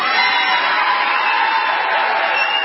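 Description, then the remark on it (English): A large crowd at a Donald Trump speech in Washington, D.C. cheers in a loud, steady roar of many voices that blend together and hold without a break for the whole few seconds, with no single voice standing out; the audience is on its feet, jumping up and down. “Off their feet, cheering, jumping up and down.”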